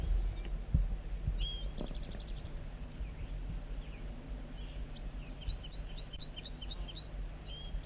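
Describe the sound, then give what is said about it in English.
A wild banded male bird sings a series of short, high chirping notes, starting with a quick trill and then repeating bright chips at a steady pace over a low rumbling background hum. “And he escaped or whatever and flew back to the singing wild banded male.”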